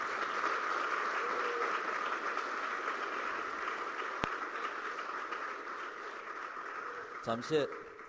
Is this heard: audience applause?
yes